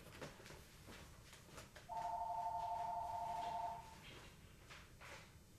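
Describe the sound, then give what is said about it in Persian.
A telephone rings once with a steady electronic tone lasting about two seconds. It is clear and stands out over a low background hiss, with no one talking. “خب ببخشید من تلفن رو قطع کنم.”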